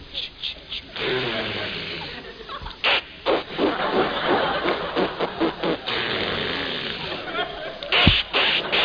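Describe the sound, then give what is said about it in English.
A voice imitates an "outboard motor type" sneeze with a long sputtering, buzzing burst of breath and lip noise, rattling rapidly like a small motor before ending in a sharp, hissy explosive release. “Yeah, this one I call the outboard motor type. People with pivot teeth or bridge work should avoid this sneeze.”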